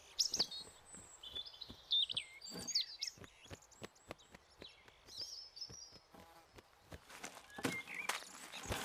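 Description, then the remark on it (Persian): A robin chirps in short, high, whistled bursts that come irregularly, over faint insect-like buzzing and scattered soft clicks. No one speaks. “پرنده سینه سرخ توی بهار خونوادش رو تشکیل داده.”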